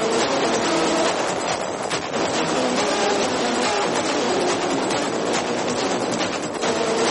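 A dense, abrasive electronic music track plays at steady loudness, full of grinding, noisy textures and clattering rhythmic hits, with no singing or talking.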